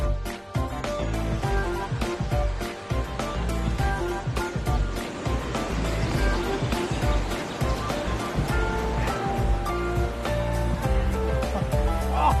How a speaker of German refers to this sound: Oh. Ey, das Wasser hat hier so eine Kraft, so eine Strömung. Das haut einen fast weg, ne? Wenn man so einen Schritt machen will.